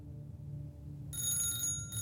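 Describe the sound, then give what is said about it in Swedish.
An old telephone bell rings with a bright metallic trill that starts partway through, over a low steady hum, fairly loud. It is a telephone at a woman's home in early 1881. “En dag i början av 1881 skräller telefonen hemma hos henne.”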